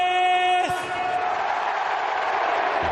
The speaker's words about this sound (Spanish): Hablando de años de contrato, también lo tiene Gareth Bale, que ayer fue ovacionado por el Bernabéu.